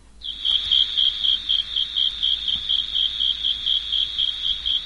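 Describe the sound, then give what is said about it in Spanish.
A steady, high-pitched insect chirping in quick repeated pulses, a fast regular trill of clicks, about 20 clicks in 7 seconds, indicating a temperature of 25 degrees Celsius, continuing throughout with no voices. “Sí, mira, si contamos el número de clics en 7 segundos y sumamos 5, nos dará la temperatura exacta.”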